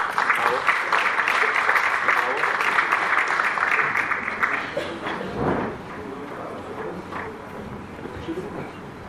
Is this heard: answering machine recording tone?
no